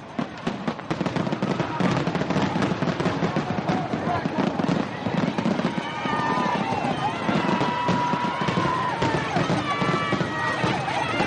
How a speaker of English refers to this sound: The fireworks pretty well. Yeah. Lit up pretty well. The fireworks lit up the course? Oh, yeah. Totally.